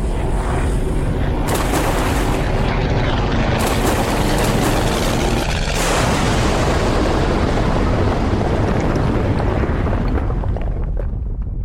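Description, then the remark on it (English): A bridge is destroyed in a thunderous, sustained roar, with sharp blasts cracking through around the start and middle before the rumble slowly thins out. No voices are heard. “The bridge was destroyed.”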